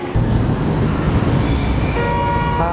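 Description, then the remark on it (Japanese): A train rolls in to platform 2 at Okaba Station with a steady, loud rumble of wheels on rails, and high-pitched brake squeals rise near the end as it slows to a stop. “まもなく2番線に電車が参ります。”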